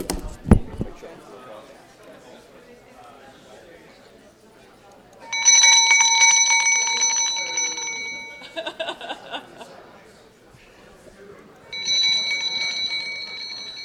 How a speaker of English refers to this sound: So that's the school bell that tells you to stop.